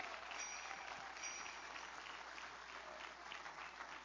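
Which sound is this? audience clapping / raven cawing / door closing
audience clapping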